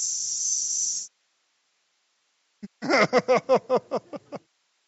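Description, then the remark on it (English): A steady, bright hiss like cassette tape noise runs for about a second and cuts off, then after a pause comes a quick run of eight short, pitched bursts that fade. “Got the little hiss in the background.”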